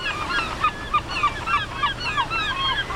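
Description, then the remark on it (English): A crowd of herring gulls calls over and over, their harsh, overlapping squawks and yelps forming a steady, busy chorus with no pauses, moderately loud. “Herring gulls may seem unremarkable, especially in winter when young birds all look the same in mottled shades of brown and black, but I feel my brown skin crawl when people call them rats with wings.”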